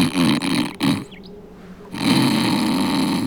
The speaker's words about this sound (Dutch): Om de 2 seconden snurkte hij luid.